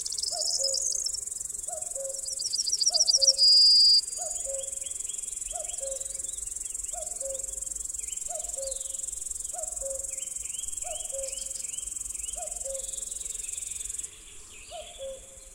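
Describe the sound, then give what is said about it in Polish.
A newly matured singing bush-cricket sings a continuous, high buzzing song at Puszczańska Polana, joined by bees and other insects chirping in a steady repeating pulse, with brief bird-like twitters; no talking, moderately loud. “Właśnie zaczął swoją niekończącą się pieśń pasikonik śpiewający, który dopiero co uzyskał dojrzałość.”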